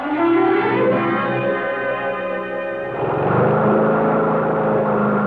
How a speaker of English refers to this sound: Cal, cut that thing off, Cal. Yeah, just mowing the lawn, Mr. Hardy. Gets real shaggy.